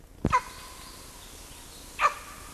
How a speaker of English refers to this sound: There's a bark by adult male LB.